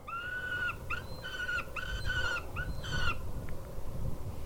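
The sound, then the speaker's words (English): A hawk's predator call plays through loudspeakers surrounding a toxic pit of acidic wastewater in Butte, Montana: a run of five shrill, harmonic screeching notes with short gaps, over a steady low rumble of outdoor background noise. “That was another type of hawk. Those bird calls you're hearing are coming from speakers surrounding the pit.”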